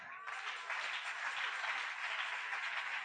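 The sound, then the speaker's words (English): Steady applause from a crowd, dense overlapping clapping that sustains evenly for a few seconds, without any voices standing out. “Are you clapping?”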